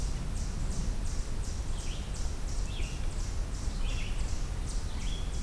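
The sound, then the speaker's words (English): Short birdsong phrases from a red-eyed vireo repeat every second or so over a steady, rhythmic high-pitched buzz of insects and low outdoor rumble in woodland. “It's red-eyed vireo vocalizing as well.”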